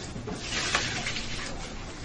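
A steady stream of rice water being poured out splashes into a sink, a continuous hissing pour lasting a couple of seconds with a brief brighter splash midway.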